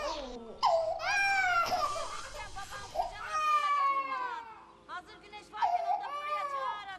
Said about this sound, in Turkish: Odada birkaç aylık bebek sedirde ağlamakta.